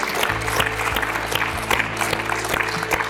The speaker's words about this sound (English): Hey, Open Door staff, let's all give King Jesus a great big hand clap. Let's do that, man. Outstanding.